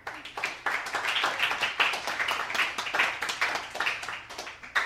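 A crowd at a Fusion Coffeehouse jazz series show applauds steadily to welcome the performing artist, many hands clapping in a dense, continuous patter at moderate volume for the full five seconds, with no voices standing out.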